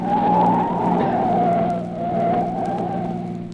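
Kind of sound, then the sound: vehicle, car tires skidding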